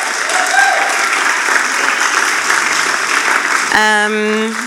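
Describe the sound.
An audience gives a round of applause for people coming to the front with gifts, clapping steadily in a dense, loud, even wash for nearly four seconds, then a voice starts speaking over the tail of the clapping.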